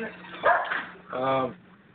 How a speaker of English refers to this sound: As soon as my dog stops barking.